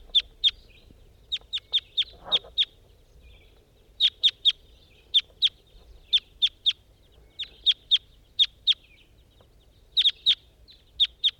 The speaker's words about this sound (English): start recording two wild birds up in a tree.